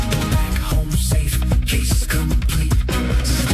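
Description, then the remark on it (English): Upbeat full-band novelty song about a goat outrunning the police, with a steady driving beat, punchy drums and bass, played loud and continuous throughout, with no talking over it. “That just might be the best goat song ever.”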